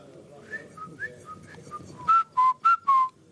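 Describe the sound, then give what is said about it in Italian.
A rabbi whistles a short tune: softer wavering notes at first, then four loud, sustained whistled tones in quick succession, over faint background noise. “Rav fischia.”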